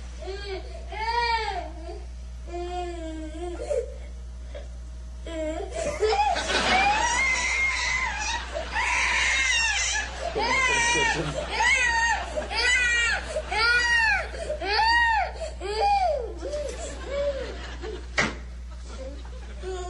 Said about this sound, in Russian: Этот ребенок сейчас сам за себя все скажет. Бьется в истерике. Чего-то хочет, требует.